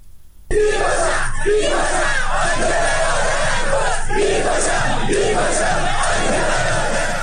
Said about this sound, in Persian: معترضان شامگاه یکشنبه مراسم عزاداری دولتی در آبادان را هم با سر دادن شعارهایی متوقف کرده و مانع از سخنرانی محسن حیدری آل کثیر نماینده خوزستان در مجلس خبرگان شدند.